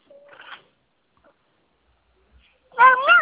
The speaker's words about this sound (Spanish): Miau, miau.